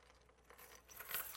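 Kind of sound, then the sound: household object, keys jangling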